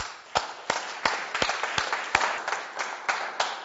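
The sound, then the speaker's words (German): A crowd applauds together, a dense wash of clapping with sharp, evenly spaced claps standing out in a steady rhythm, loud, with no talking over it. “ich finde, wir sollten jetzt einfach mal Gott einen großen Applaus machen dafür, dass das Blut Jesu so stark ist, oder?”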